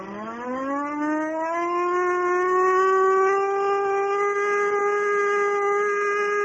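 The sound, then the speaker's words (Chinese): An air raid warning siren winds up from a low pitch to a steady, loud wail that holds for several seconds, rich with harmonics and no voices over it. “糟糕，怎么偏偏在这个时候拉警报呢？”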